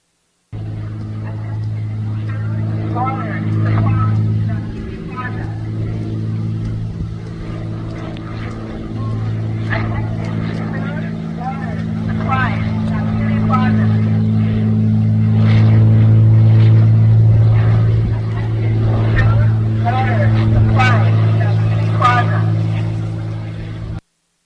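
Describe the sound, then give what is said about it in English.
A steady, low propeller drone of a plane flying overhead in the United States runs throughout while a loudspeaker-amplified voice from it broadcasts instructions about where to get food, water and supplies, echoing and hard to make out. “This is a plane flying over, giving them instructions about where to go get food and water and supplies.”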